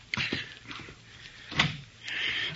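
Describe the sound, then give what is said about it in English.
A door opens, with a latch click and a few soft knocks, then a sharper thump midway and a hissing, scraping sweep as it swings. No one speaks. “Get the door”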